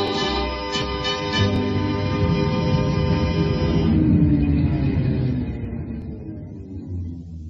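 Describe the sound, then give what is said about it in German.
A few quick metallic bell dings ring out at the start as a line 55 tram rings its bell for the last time, then a heavy rumble of the tram rolling away to the depot grows and slowly fades, with no talking. “Zum letzten Mal ertönt jetzt ihr Bim-Bim.”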